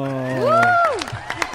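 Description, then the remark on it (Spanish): A short burst of applause during a morning broadcast on Uniminuto Radio, with scattered claps under a loud rising-and-falling vocal cheer, followed by a few more claps and murmuring voices. “¡El aplauso!”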